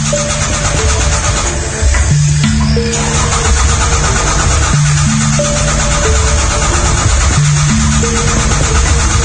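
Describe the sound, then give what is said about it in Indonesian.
A car engine in a parking lot cranks over and over without catching, loud, with the starter's droning whir broken by short pauses between several attempts. “Ketika aku coba nyalakan, awalnya mobil tidak mau menyala.”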